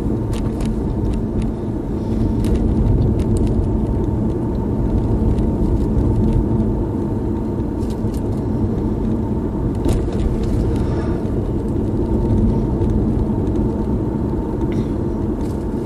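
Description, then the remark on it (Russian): Steady, loud road noise from a car driving at speed on a busy freeway full of cars, a deep continuous rumble with a constant hiss of traffic and occasional brief clicks and rattles, no voices. “вот я еду по пустой улице, а на хайвее полно машин.”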